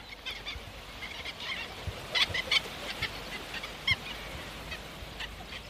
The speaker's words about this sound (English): These are godwits flying overhead. You can hear them calling.